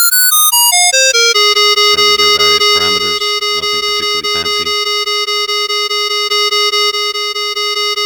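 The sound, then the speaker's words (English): A synthesized RTcmix wavetable instrument tone, called by a simple subroutine, pulses steadily, opening with a quick descending run of bright notes before settling into a sustained, buzzy harmonic pitch with rhythmic flutters. No one speaks. “So here we have a simple one that just calls an RTCMix wavetable instrument. And it's just pulsing away.”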